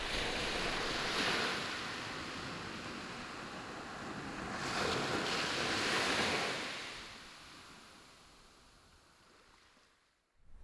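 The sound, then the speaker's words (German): Sea waves all around wash and crash onto stones in a steady roar, with two louder surges swelling and then fading away, with no voices. “das in die Steine prasselnde Meer ringsum.”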